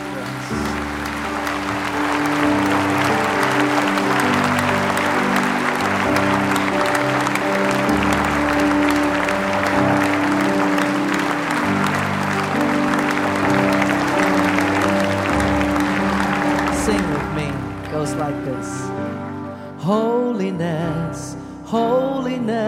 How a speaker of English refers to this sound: But could you put that cup on that little armrest and free your hands so that we can, with a clap offering, thank God for his mercy.